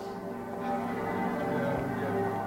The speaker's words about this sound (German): Abends in Dresden. Wie an jedem 13. Februar läuten um 21.45 Uhr, der Zeit des ersten Angriffs auf die Stadt, die Kirchenglocken. 20 Minuten lang.